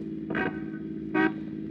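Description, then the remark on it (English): A car engine rumbles steadily while its horn gives two short honks about a second apart as the car drives away from in front of an apartment house on a street; no one speaks. “Hey, step on it. He's driving away.”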